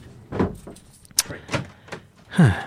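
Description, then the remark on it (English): A door being opened: a few soft thuds and shuffles, a sharp latch click, then a brief creaking slide near the end. “I'll go get the fucking door.”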